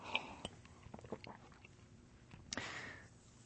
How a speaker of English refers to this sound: Okay. I'm gonna take a sip of water here.